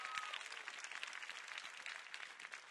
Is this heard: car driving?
no